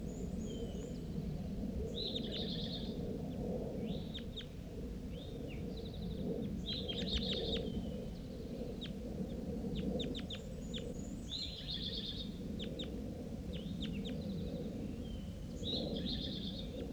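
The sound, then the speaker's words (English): A juvenile male bird wearing a band calls repeatedly, giving short high chirps and brief buzzy trills in irregular bursts over a steady low rumble of background noise. “Bird appears to be a juvenile male.”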